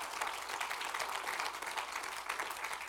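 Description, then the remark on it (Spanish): A crowd applauds steadily, giving applause to God during a sermon, many hands clapping in a dense, continuous patter that holds at an even, moderately loud level throughout, with no voices standing out. “Diga amén, hermano, y dele un fuerte aplauso a Dios, mi hermano, en esta tarde.”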